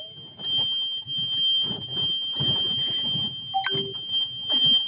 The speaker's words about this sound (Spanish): Hiciste muy bien al orillarte, porque cuando suena esa alarma, como te comento, es que va a perder GPS y muy probablemente cuando suena es que se te vaya a bloquear unos metros más adelante